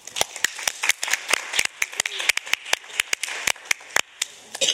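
A small group at a working group session applauds to thank the outgoing co-chair and welcome a new co-chair, with brisk, uneven hand claps that overlap in a steady patter, moderately loud, with no talking.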